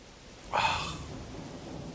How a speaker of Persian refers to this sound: بارون، آره دیگه وقتشه. حتی اگه ماشینم زیر برف مونده باشه و اینجوری از چشم همه پنهون مونده باشه، بارون همه چی رو درست میکنه. آره همه چی رو درست میکنه.